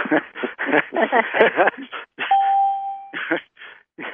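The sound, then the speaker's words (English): A mute/unmute notification tone on a conference call sounds once as a steady, mid-pitched beep lasting under a second, set among stretches of people talking, with a brief click just before. “Should I mute the tones?”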